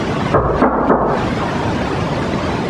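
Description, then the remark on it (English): Three heavy, booming thuds in quick succession as a man bangs on a wall at the back, followed by a low rumbling hush with no one speaking. “could you just bang on the wall back there?”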